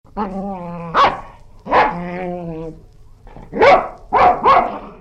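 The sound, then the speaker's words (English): A dog barks about five times in loud, sharp bursts, with long whining tones in between, and no one is talking. “They have sharp teeth, they bare their teeth and bark.”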